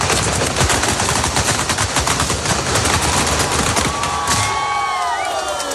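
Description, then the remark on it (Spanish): Rapid, dense bursts of Fallas festival firecrackers in Valencia, Spain, crackle and pop continuously and loudly, with a faint crowd murmur and a few whistling rockets rising near the end. “Qué gusto da escuchar disparos, explosiones inofensivas, ¿eh? Estallidos de carácter puramente lúdico y no los del Golfo Pérsico o los de Ucrania.”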